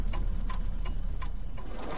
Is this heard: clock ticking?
yes